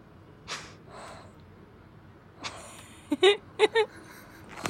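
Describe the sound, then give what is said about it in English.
A pet's heavy mouth breathing: a few soft, airy huffs spaced apart, then a quick cluster of louder, raspy puffs near the end, with no talking. “A lot of very calculated breathing.”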